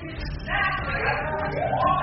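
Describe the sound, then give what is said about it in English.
Muffled shouting voices from downstairs in a house, several people yelling over each other in a continuous, raised clamor. “Yeah, I hear something downstairs. What happened? I don't know. Who's that? I hear some yelling.”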